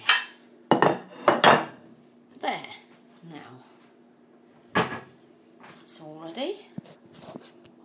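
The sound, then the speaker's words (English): A cupboard door knocks and plates clatter as they are lifted out to be set ready for a meal, a few sharp clinks, followed by softer shuffling and a brief voice. “I'm going to get some plates ready for us.”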